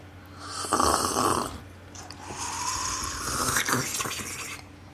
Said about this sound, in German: Jetzt wollen wir schlürfen, damit man es hört.